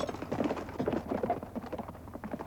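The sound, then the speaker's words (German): A ridden horse's hooves galloping in pursuit in a quick, steady rhythm of dense thuds, moderately loud, running on without pause and with no voices. “Ich sprang auf das Pferd, das mir am nächsten stand, und folgte ihm.”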